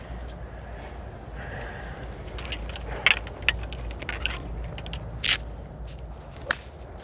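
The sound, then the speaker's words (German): A crisp, sharp crack of a golf club striking a ball outdoors as a right-handed golfer plays an approach shot of about 142 toward the green, with the wind slightly from behind, set among a few other brief clicks over steady, breezy background noise, with no one talking. “Und zum Glück bin ich Rechtshänder und kann hier vernünftig stehen und habe eigentlich einen guten Schlag ins Grün.”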